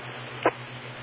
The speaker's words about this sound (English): Yeah, I can hear by the beep that you're on the Eastern input.